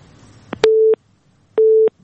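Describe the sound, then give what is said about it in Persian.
A telephone busy signal after a caller's call drops during a radio call-in program: two steady, mid-pitched electronic beeps of equal length, separated by a short silence, sounding on their own. “خب تماسی اینا قطع شده.”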